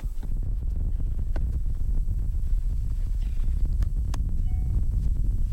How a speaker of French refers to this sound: Toujours ce vent que vous entendez. On entend encore plus avec nos deux nouveaux micros qui vous restituent le son.